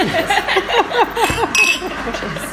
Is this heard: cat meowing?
no